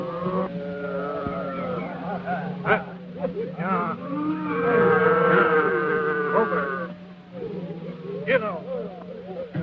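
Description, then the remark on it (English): A herd of cattle being moved by rustlers lows and moos in overlapping, drawn-out calls, loud, over a steady low rumble of movement that continues throughout. “The rustlers continue moving the cattle.”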